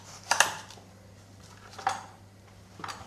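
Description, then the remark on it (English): A knife cuts through a chunk of onion, giving a few sharp knocks against a cutting board, spaced apart over a low steady hum, with no talking. “You've kind of cut off a hunk just of onion.”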